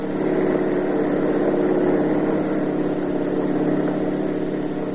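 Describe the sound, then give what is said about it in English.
A car engine accelerates during a chase, roaring steadily and loudly throughout, a dense, continuous mechanical drone with no pauses and no voices. “We're going over 70 and he's walking away from it.”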